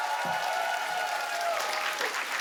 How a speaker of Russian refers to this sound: смотри, все аплодисменты тебе.